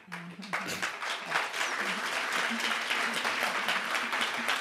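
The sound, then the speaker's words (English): An audience breaks into steady, dense clapping that swells quickly and holds at an even level for several seconds, with a faint voice audible under it at the start. “And the second thing, I'm sure you don't clap this time.”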